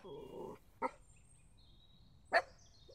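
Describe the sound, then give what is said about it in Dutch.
Two small dogs approaching bark: two short, sharp, high yaps about a second and a half apart, after a brief whining tone at the start. No one speaks. “Kijk, er komen twee hondjes aangelopen.”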